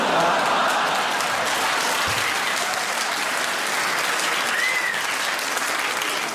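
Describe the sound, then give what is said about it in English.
An audience claps steadily for several seconds after a Parkinson's joke, a dense wash of hand claps at a loud, even level with a faint murmur of the crowd mixed in. “I think clapping a Parkinson's joke is in poor taste, ladies and gentlemen.”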